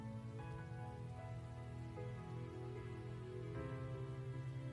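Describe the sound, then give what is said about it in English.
Steady, soft soaking rain saturating the earth falls continuously at an even level, a gentle wash of patter with a sustained low tonal hum beneath it and no voices. “I can't remember when last I have seen such soft, soaking rain saturating the earth.”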